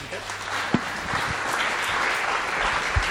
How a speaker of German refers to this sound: Einen großen Applaus, bitte schön, dass du da bist